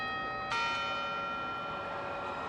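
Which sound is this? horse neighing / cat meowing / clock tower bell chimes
clock tower bell chimes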